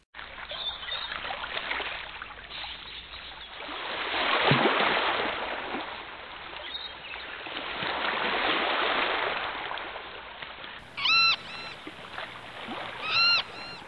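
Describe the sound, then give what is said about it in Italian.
Gentle, lazy waves lap softly against the shore of a small island in a lagoon in slow, rolling swells, with the water rising and fading twice; near the end a gull calls a couple of times in the distance. “si sentivano solo un gabbiano solitario chiamare in lontananza ed il rumore di qualche onda pigra che si infrangeva sulla riva dell'isoletta.”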